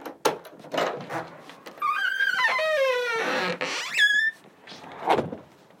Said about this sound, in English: Awful squeaky door.